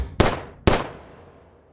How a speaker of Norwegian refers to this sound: Over politiradioen kunne man høre at det ble avfyrt 3 skudd.